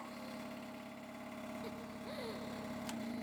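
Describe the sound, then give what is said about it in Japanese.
The small motor of a stone vibrator starts up and hums in a steady, continuous buzz with a low droning tone, holding at an even, moderate level throughout, with a couple of faint brief chirps and clicks near the end. “ストーンバイブ起動。”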